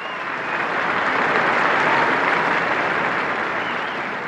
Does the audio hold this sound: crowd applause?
yes